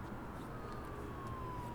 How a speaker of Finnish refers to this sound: Hei, nyt sieltä kuitenkin tulee poliisiauto.